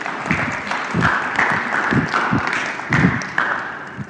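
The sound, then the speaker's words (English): An audience at a sermon breaks into steady applause, a dense wash of many hands clapping at fairly even loudness for about four seconds, with a few sharper claps standing out. No one speaks over it. “All right, give it a round of applause.”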